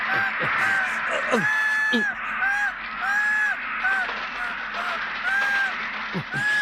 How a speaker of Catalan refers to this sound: Alerta! Ens ataquen uns ocells!